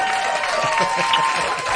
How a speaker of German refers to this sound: Super, hier kommt ein Applaus.